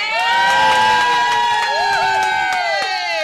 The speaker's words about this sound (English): Everyone cheers.